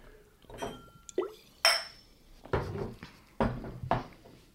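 Glasses clink together in a toast with a bright ringing tone, followed by a few soft knocks and clatters of glassware being handled and set down, with no voices.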